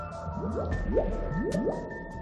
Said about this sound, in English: The way I think about it is almost like you have bubbles that are making sort of a bloop sound, and they're separating and continuing to divide and separate.